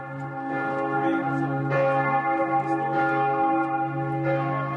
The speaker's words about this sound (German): Die Glocken der Abtei läuten zu einer Vigil, einer religiösen Nachtwache mit liturgischen Texten, Gebeten und viel Gesang. Es ist keine klassische Messe und ein Zugeständnis an die Gäste der Dormitio-Abtei.